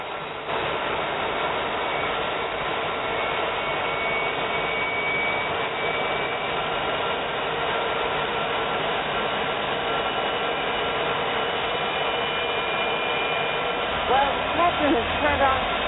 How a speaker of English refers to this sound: I'm starting that number two engine. Here we go.